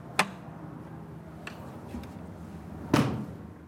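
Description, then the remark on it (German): A heavy door in a church clunks open with a sharp knock, followed by faint creaks, then swings shut with a louder, resonant thud that echoes briefly. “Posten 9, der letzte, ist hinter einer schweren Tür.”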